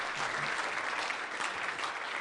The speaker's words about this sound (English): Let's hear it for Addison, Illinois. We applaud almost any place.